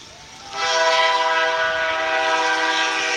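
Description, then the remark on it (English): A passing train's horn blares in a sustained, loud, harmonic blast starting about half a second in and holding steady to the end, with no talking, as the train comes through Maple Lake beside a baseball game. “And here comes the train.”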